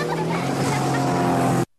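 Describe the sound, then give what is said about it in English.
A motorboat engine drones steadily and loudly, a constant low hum with a hissing wash on top, running for under two seconds before cutting off abruptly. “There's a problem if you drink and drive a boat.”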